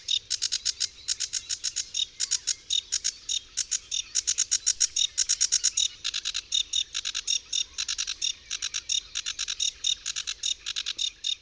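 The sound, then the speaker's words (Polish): A sedge warbler sings a very fast, lively song of long, rapid series of similar high, buzzy notes in steady rhythmic bursts, each series set apart by a single contrasting syllable, with brief pauses between series. No one speaks. “Składa się z długich serii niezbyt zróżnicowanych dźwięków. Serie te są rozdzielone jedną, wyraźnie kontrastującą z otoczeniem sylabą.”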